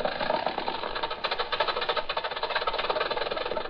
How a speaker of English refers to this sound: Once upon a time, this was the newest car on the road.